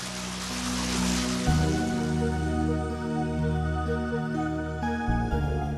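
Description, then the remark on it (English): Water runs steadily from a small beaked street drinking fountain (fontanella) in Rome, a continuous splashing flow with a low tonal hum underneath and no voices. “So familiar the sound of its sparkling play here in Rome's streets and squares, in the great fountains of its master artists and architects, in its friendly beaky fontanelle, where the water runs and runs.”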